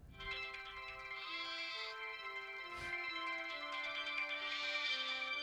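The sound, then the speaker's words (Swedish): A lamb bleats in long, wavering cries over the opening of a song, the bleats loud and up front and blending with sustained musical tones throughout. “Det är lammet, ja.”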